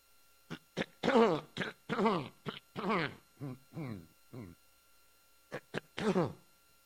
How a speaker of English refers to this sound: You know, I'm not going to drink water right now. This is just my normal cough that I have at this particular point.